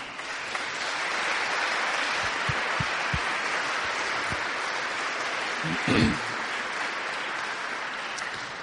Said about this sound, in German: Und ich möchte mich bei euch auch bedanken als Jugendlichen, dass ihr mitgestaltet haben, diesen Gottesdienst. Und Anerkennung kann man in unserer Kultur auch durch Applaus zum Ausdruck bringen.